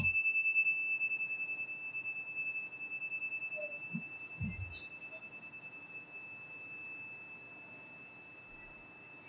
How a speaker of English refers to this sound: we'll now have a moment of silence. I'll ring the chime once at the beginning and once at the end.